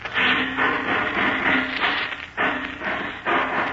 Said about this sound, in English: Sounds like he's ripping off another door. Must be the vault.